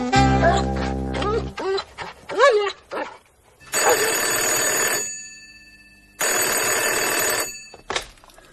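A dog, Iwan, lets out a drawn-out whine, then several sharp barks in quick succession, followed by two long bursts of a ringing telephone bell in a cemetery office.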